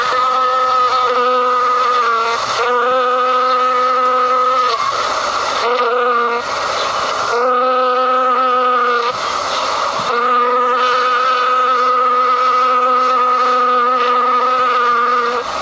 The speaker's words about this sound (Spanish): Le pones más atención a la mosca que va pasando.